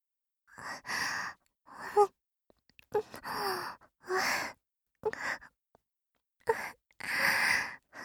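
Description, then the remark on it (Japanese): A person imitates a dog's panting with a series of loud, breathy huffs, about seven bursts in an uneven rhythm with short pauses between, and no talking. “はい、こっちからもワンコの吐息と唾液いっぱい流し込むから。”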